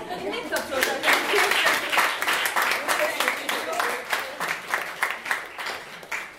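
An audience breaks into applause, a dense stretch of many hands clapping that carries on for several seconds before gradually thinning out toward the end.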